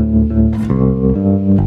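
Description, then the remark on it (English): A bass guitar played fingerstyle runs through a short phrase of about four round, sustained low notes, fairly loud, with no voices. “If I play that with fingers,”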